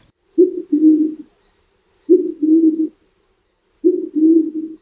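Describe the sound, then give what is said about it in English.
A band-tailed pigeon gives three low, hooting coos, each a short note followed by a longer one, evenly spaced about every two seconds against a quiet background. “Their sound oddly resembles an owl.”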